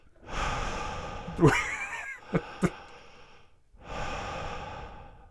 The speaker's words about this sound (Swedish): Bara andas i mikrofonen. Andas obehagligt. Är det behagligt?